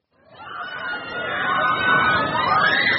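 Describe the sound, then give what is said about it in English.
A crowd of people screams with delight in summer at Funland, a beachside amusement park in Rehoboth Beach, Delaware, a dense, continuous mix of high, wavering shrieks over a busy wash of noise that builds and stays loud throughout. “The screams of joy are back this summer at Funland, a beachside amusement park in Rehoboth Beach, Delaware,”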